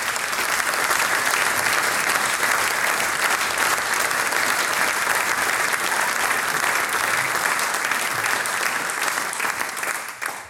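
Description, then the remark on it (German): Sustained audience applause for the on-site production team, a dense steady patter of many hands clapping at an even loudness for about ten seconds before tapering slightly at the end. “Liebes Team, das ist euer Applaus.”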